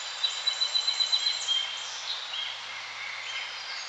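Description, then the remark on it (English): Birds sing in a forest with a warm breeze blowing, opening with a quick run of about eight bright chirps, then fading into a softer, continuous wash of calls over steady outdoor ambience. “You're in the forest, and there's a warm breeze blowing through your hair as the birdsong fills your ears with joy and peacefulness.”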